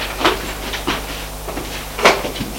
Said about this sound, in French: Il lui ouvre les portes du couloir.